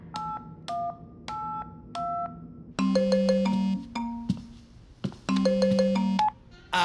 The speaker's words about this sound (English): What is that? Is that a phone? That's someone's phone.